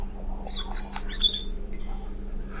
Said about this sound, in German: Was ist denn das? Ein Stieglitz. Nein. Nein. Das war das Rotkehlchen.